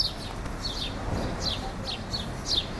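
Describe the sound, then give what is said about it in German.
Sparrows chirp repeatedly from yew and box hedges at the edge of a meadow on Bahnhofstrasse in Zürich, Switzerland, short bright 'chilp' calls recurring every half second or so over a low background hum, moderately loud. “Dieses Chilp, Chilp, wie der Vogelkundler es beschreibt, ist der Spatzenruf.”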